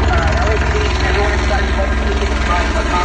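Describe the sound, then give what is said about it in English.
Loud, steady helicopter rotor noise throbs throughout, with a distorted, barely intelligible loudspeaker message broadcast from the helicopter buried beneath the roar. “It sounds like he's holding the mic up to the blade to the chopper instead of to his mouth.”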